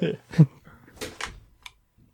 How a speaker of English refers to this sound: Can you close the door before you go? Okay. I'll close this one. You close the other one.